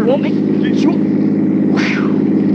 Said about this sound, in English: Is that a car coming? It looks like a truck.